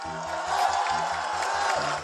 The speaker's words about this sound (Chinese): 大声的拍手掌为我们狱中的朋友致敬，大声点。